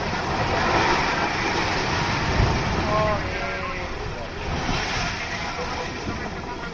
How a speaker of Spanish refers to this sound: Es el momento en el que la lava provocó el derrumbe del campanario de la iglesia de Todoque.